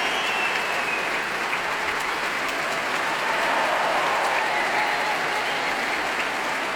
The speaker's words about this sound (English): Applause there for principal bassoon Philippe Anand. Members of the brass section now come to their feet, trombones, trumpet horns.